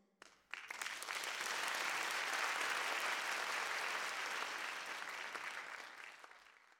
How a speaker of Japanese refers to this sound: 皆さん、拍手をお願いいたします。